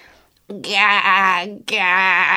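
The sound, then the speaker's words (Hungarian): A voice imitates a goose with its beak stuck between fence slats trying to honk, giving two strained, nasal bursts: a long one, a brief break, then another, loud with a wavering, choked tone. “Próbált gágogni, de csak furcsa hangok jöttek ki belőle.”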